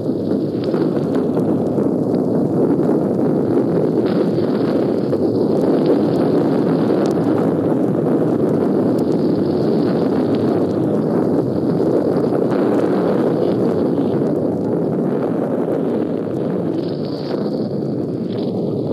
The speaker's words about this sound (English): It's 4:30 now. That attack is going in. The guns are shooting again. I'd better take the mic outside.